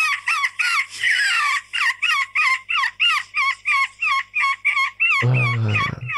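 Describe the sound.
At a seagull-call European Championship, the European seagull-call champion mimics a seagull's cry with a rapid run of about a dozen shrill, loud, wavering calls, then finishes with a lower, throaty burst.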